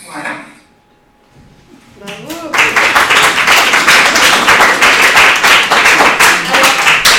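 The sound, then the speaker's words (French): After a brief quiet pause with a few scattered claps, an audience bursts into loud, sustained applause for the person who drew the margaritas and created the logo, many hands clapping in a dense, steady roar that continues to the end. “Des applaudissements spéciaux pour la personne qui a dessiné les margaritas, qui a créé le logo.”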